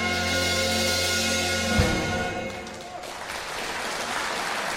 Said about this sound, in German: Applaus für …, unseren Chor der Woche.